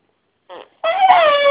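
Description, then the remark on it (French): Someone imitates an elephant's trumpet with their voice: a brief breathy burst, a short pause, then a sustained, high, strained squeal that wavers and slowly falls in pitch. “C'est un éléphant. C'est comment l'éléphant?”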